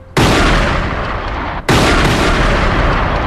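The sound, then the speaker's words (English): Two loud, booming gunshots fired inside an embassy held by terrorists, about a second and a half apart, each one sharp at the start and followed by a heavy roar that fills the air. No voices. “Outside, the police hear gunshots.”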